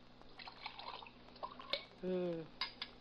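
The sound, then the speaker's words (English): Coffee is poured into a cup in a short half-second stream, surrounded by light clinks of cups and dishes. “Want to pour me some coffee?”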